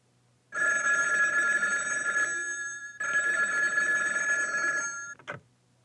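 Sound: telephone ringing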